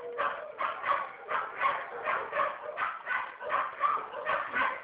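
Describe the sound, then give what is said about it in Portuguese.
A dog barks over and over in a steady, rapid rhythm, about a dozen sharp yips and barks, fairly loud and continuous with no talking. “Ficou difícil de ouvir agora que está cachorrado aqui.”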